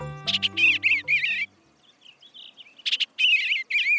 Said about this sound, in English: What a lovely song! The very sound of spring. A mellow, burbled refrain from the edge of a meadow. A shimmer of blue against the still wintry landscape confirms our eager hope. An eastern bluebird has just returned north.